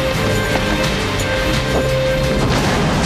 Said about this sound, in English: Gronky tosses a gasoline can to the ground. They run to their car as flames come through the trailer roof and windows.